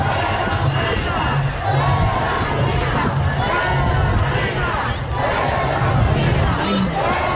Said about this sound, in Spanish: Y se reúne gente afuera de sus oficinas y le gritan, es una manifestación de apoyo, de solidaridad con Marina. Escuchen, por favor, a la voz del pueblo baja californiano.